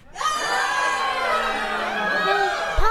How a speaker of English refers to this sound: Well, just then, the little girl, Allison, she woke up and she heard all these folks screaming.